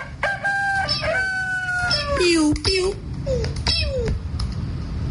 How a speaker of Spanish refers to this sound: Suéltame el gallo.